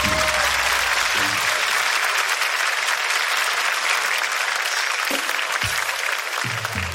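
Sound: audience applause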